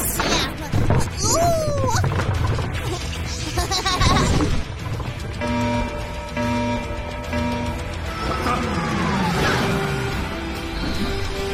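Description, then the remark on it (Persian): Rapid bursts of fiery gunfire and booming explosions crash through a busy, loud mix, with sweeping whooshes and sustained musical tones running underneath for the whole stretch. “آره من عاشق این شلیکای”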